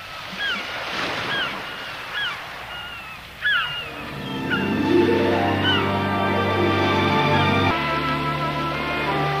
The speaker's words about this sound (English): If you've ever taken a course in relaxation techniques, one of the listening aids often used is the sound of a gentle rain or wind, or more than likely, the sound of the ocean.